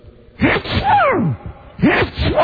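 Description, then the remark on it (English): A voice imitates Donald Duck sneezing: a loud, raspy, squawking burst with sweeping pitch, then a second quick quacky sneeze after a brief pause. “Want to hear Donald Duck sneeze, little baby?”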